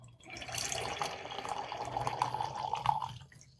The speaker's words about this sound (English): Of course, I have to put it in the aerator first. And I'm getting a little excited here. Really excited to try this wine. It's been that long. So I'm going to put in the aerator, and we're going to give it a little bit of a pour here.